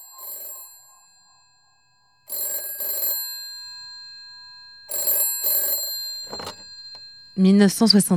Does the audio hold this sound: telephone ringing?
yes